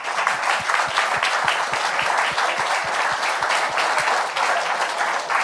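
Sustained applause from a quiz show audience for two contestants leaving as another advances to the fourth round, dense and steady clapping at an even level throughout, with a few sharper individual claps standing out.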